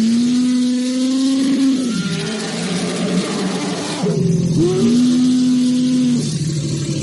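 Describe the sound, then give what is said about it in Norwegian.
Two elephants trumpeting in greeting as they run up to an old acquaintance, the person recording whom they know well, and stand close: two long, loud, steady blaring calls separated by a short pause, over a continuous deep rumbling. Nobody speaks. “Den som gjør opptaket kjenner nemlig elefantene godt, og når de ser hen, så kommer de springende og stiller seg tett innåt, mens de brøler ut sin kjærlighet og lenge siden sist, og hvordan går det, og alt det der.”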